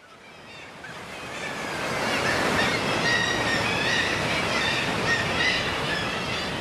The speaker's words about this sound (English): Straight off the boat and into a cathedral of crying kittiwakes and crashing waves.